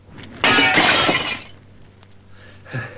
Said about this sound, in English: John has smashed the window.